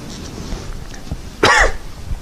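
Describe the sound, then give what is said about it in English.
A single sharp cough bursts out after a brief rough throat clearing, with low rumbling noise before it and a quieter tail afterward. No one speaks. “Think about that for a second while I try to clear my throat.”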